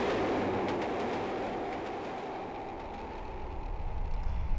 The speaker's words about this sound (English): I've now caught the train from Reading towards London